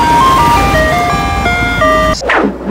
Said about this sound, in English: You saw the ice cream truck coming down and you think, hair cream.